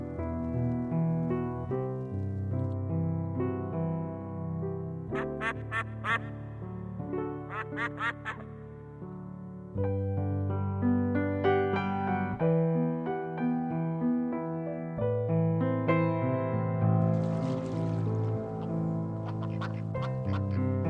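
A steady, full-sounding song about ducks plays on the Vegan Nation radio program with no one talking over it, sprinkled with bursts of duck-like quacking that recur throughout the tune.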